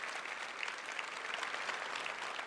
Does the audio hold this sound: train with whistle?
no